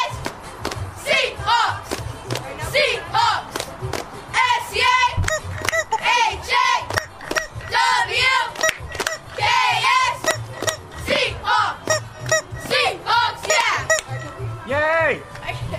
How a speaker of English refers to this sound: I have no idea what's going on here. They're cheering.